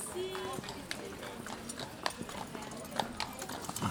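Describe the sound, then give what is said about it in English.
Hooves of horse-drawn carriages clip-clop on a winding stone street in old Quebec in a steady, unhurried rhythm, sharp, while indistinct voices murmur in the background. “Horse-drawn carriages.”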